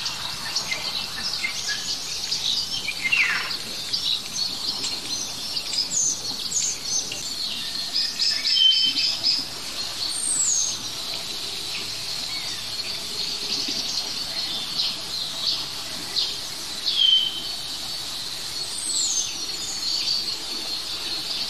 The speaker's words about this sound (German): Handyklingeln, würde ich fast sagen, arzttypisches statisches Knistern und Knarren, Pfiffen und Rotmilane und Mäusebussarden. Wenn all das aus einem Baum kommt, ist es höchstwahrscheinlich der Star der Vogelwelt. Der Star.